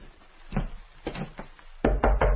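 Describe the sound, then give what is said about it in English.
Knocking on a door: a few scattered thuds, then a quicker run of three louder raps near the end, with no voices. “There's the door.”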